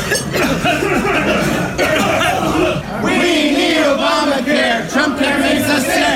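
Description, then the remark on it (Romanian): A dense crowd of protesters fills the restaurant in Trump Tower, New York, with overlapping coughs and murmuring voices, loud and continuous, with occasional faint clinks in the background. “Manifestanții s-au adunat chiar în restaurantul din Trump Tower, unde s-au pus pe tușit.”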